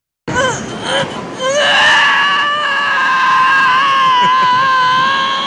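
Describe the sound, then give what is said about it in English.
In a film scene, a man being turned into a popsicle screams: a loud, sustained scream rises after a few short gasping cries, then holds a long, wavering high-pitched shriek over a dense noisy background. “And then some great screaming, and that'll end our clips. Here's some of the best screaming in this film.”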